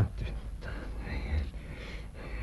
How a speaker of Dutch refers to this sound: Ja, ademhaling is weer begonnen. Ja, ja. Hij krijgt het kleur.